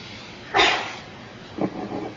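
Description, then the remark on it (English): A single sharp, hissing sneeze bursts out loudly, followed after a short pause by a softer, lower rustle of breath or voice. “Bless you.”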